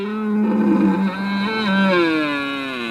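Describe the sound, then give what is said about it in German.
A red deer stag bellows in one long, loud, drawn-out roar, rich and throaty, wavering in the middle before sliding lower at the end. It is clear, with no voices. “Vom röhrenden Hirsch über den ratschlagenden Pfau bis zum quakenden Frosch.”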